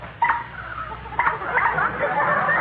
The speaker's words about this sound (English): Did the engine drop out? No, Smarty, it's the new sunken motor. And listen to this horn.